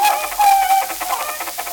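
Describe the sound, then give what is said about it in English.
A hen squawks in a quick flurry of shrill, agitated cries as it is hit by a car, fairly loud, lasting under two seconds with no one talking. “Look out for that chicken.”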